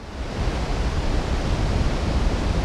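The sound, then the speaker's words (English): A steady, dense roar of surf washes across the whole clip, broad and hissing with a low rumble underneath, as waves break continuously on South New Brighton Beach, above the pipe that carries the city's wastewater out to sea, with no voices. “I'm at South New Brighton Beach. Under my feet is the pipe which carries the city's wastewater out to sea.”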